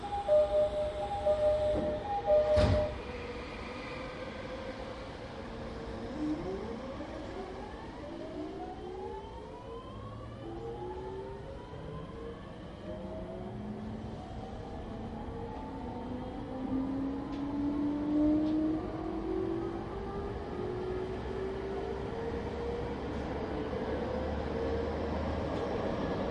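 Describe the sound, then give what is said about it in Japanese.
An electric commuter train pulls away from a station platform as its doors close, its motors whining in rising, overlapping pitch sweeps over a steady rumble that builds as it gathers speed. A sharp clunk sounds near the start; no one speaks. “番線から電車が発車します。ドアが閉まります。”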